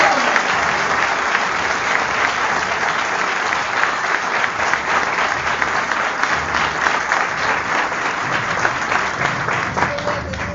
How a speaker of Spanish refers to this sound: ¡Fuerte aplauso!